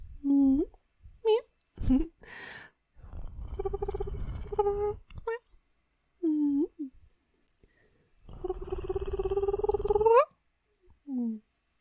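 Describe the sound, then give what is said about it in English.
A cat meows several times in short, clear calls, broken up by two longer stretches of low, rumbling purring mixed with drawn-out vocal trills. “You know, you keep me around for the meows.”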